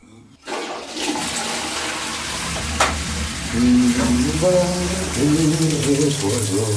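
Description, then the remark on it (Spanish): A spacecraft toilet drains waste: a loud, steady rush of flushing and draining starts abruptly and holds for several seconds, with a mechanical whine and gurgling tones rising partway through. “Siempre me pregunté a dónde desagota todo esto de los aviones, aeronaves y cohetes que volamos alrededor de la Tierra.”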